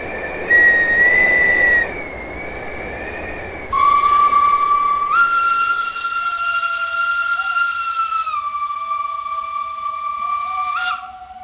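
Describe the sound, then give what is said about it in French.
Breathy, wind-like tones blow and waver, then give way to a loud, steady steam train whistle that holds several stepped pitches before cutting off abruptly. No voices. “Et comment il peut être modelé, soit par les sonorités de vent, des souffles, jusqu'à arriver à la locomotive, au siffler du train.”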